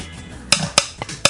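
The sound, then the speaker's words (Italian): A wooden percussion instrument, a large, slightly bent wooden structure with a hole that looks like a big clothes peg, is struck four times in a steady, even rhythm, each hit a sharp, bright clack with a short ring. The third strike is softer. No voices. “Sembra un mollettone, cioè una struttura in legno con un buco e è un po' piegato, insomma, un portafoglio sì, molto poi grosso.”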